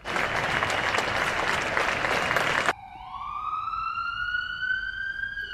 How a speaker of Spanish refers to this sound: Aplausos y sirenas, dos sonidos que relacionamos directamente con la pandemia, el encierro y la angustia que nos creaba ver el ir y venir de las ambulancias.